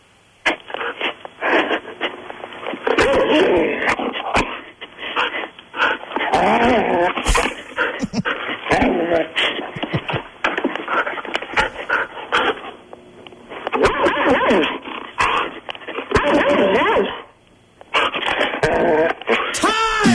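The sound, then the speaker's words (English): A dog named Bo barks repeatedly in bursts during a 30-second count, about eight sharp barks mixed with low growls and panting, sounding slightly tinny, as if heard over a phone line. “Eight barks from Bo.”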